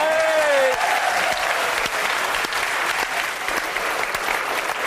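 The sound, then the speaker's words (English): Steady, dense applause from a live audience fills the whole stretch, loud and continuous, with a brief voice-like tone at the very start before the clapping takes over. “Listen, I don't know what you're clapping off him for.”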